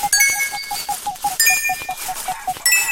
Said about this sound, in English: That's the chicken. You don't want that to touch you, or you'll get pecked, and you'll be transported somewhere else on the field.